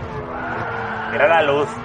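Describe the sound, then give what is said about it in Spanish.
Many racing cars in a video game drone steadily with layered engine tones, then a loud, wavering tire skid squeals for about half a second near the end before the engines carry on; the game's tire sounds were recorded at the Le Mans track. “20 días el tío grabando sonido de neumáticos en la pista de Le Mans”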